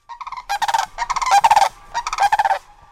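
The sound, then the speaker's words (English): A sandhill crane couple with their colt call in loud, rolling, trumpet-like bursts, several overlapping phrases in quick succession, while digging for worms a few feet from a front porch, with no one speaking. “keeping a watchful eye on a crane couple and their colt.”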